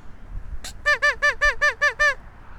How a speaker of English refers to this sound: I'm just giving these guys the quackaroos because they're talking to me. Hear those geese honking at me? There's ice out there too. I don't think it's very thick, but they're swimming around the ice.